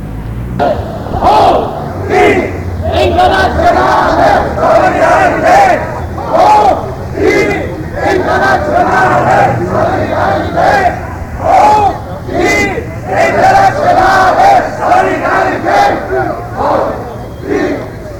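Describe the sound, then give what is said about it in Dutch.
A large crowd of demonstrators shouts and chants together in rhythmic bursts as they walk on into the Leidsestraat, followed by a riot police bus, loud, their voices rising and falling in waves that carry on steadily throughout. “Nou, de demonstranten lopen verder de Leidse straat in met achter zich aan een ME-bus.”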